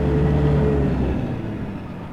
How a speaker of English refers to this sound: Nighttime, Red's semi pulls up a dirt drive toward a well-lit barn and farmhouse.